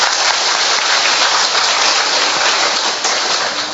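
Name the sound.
audience applauding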